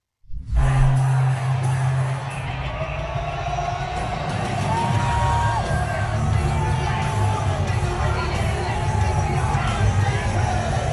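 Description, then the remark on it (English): A large arena crowd at a UFC fight in Las Vegas roars and cheers continuously as Donald Trump walks in, with scattered shouts and whoops rising out of a dense, loud wash of voices that holds steady for the whole stretch. “He went to the UFC fight in Las Vegas the other night, and he was a big hit with the crowd.”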